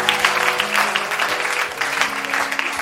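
A church audience applauds God loudly and steadily, dense clapping with a low hum of held tones underneath and no voices standing out.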